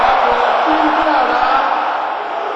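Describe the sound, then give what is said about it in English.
A crowd of men, the brothers of a gathering asked to roar like thunder, roars loudly together, a dense, sustained wall of deep shouting and bellowing voices that holds steady for a few seconds before easing slightly. “Brothers, can you roar like thunder?”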